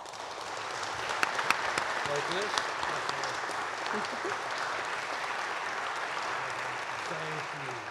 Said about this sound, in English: So, ladies and gentlemen, please join me in another round of applause for the 2022 class of the Ohio Senior Citizens Hall of Fame.